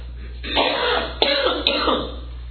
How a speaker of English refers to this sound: Well, it took me 40 minutes to get that first cough. That's not too bad.